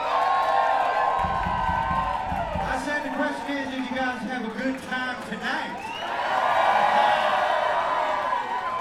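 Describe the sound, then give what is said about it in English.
A concert crowd at a show in Washington, D.C. cheers and yells loudly and continuously, with whoops and scattered shouts rising over a dense roar that dips briefly in the middle before swelling again. “Something about yelling, we just like it.”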